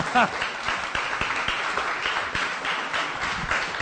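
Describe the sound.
A room full of people breaks into steady, dense applause, many hands clapping at once in a continuous patter, with a brief voice or cheer rising near the start.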